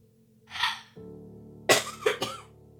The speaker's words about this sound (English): Had to cough for a moment.